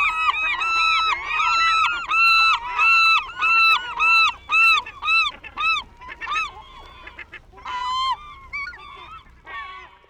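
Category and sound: bird, birds honking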